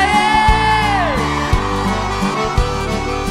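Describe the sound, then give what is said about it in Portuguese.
Women's high voices shout and whoop over loud, thumping music with a steady heavy beat, one long whooping cry sliding downward before the crowd noise blends into the band. “Cadê o grito da mulher?”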